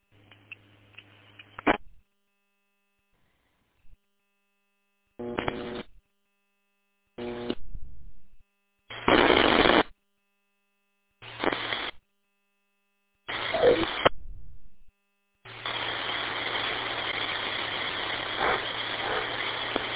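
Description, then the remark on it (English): Bursts of radio static on an empty frequency crackle on and off several times with silent gaps between, then settle into a steady, moderately loud hiss of static. No voices come through. “Nothing but static.”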